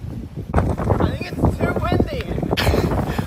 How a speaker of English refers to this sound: It is a very windy day.